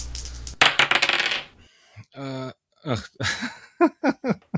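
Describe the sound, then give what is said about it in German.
Dice clatter and tumble across a hard table in a quick burst of rapid clicks lasting about a second, then settle as a person begins talking. “Lasst die Würfel rollen.”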